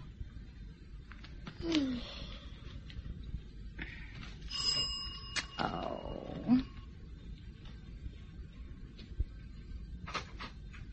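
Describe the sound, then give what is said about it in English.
A doorbell rings once around the middle, a bright, clear chiming tone that holds briefly, set among scattered low rumbles and shuffling noises. “And I shan't hear the bell or the telephone.”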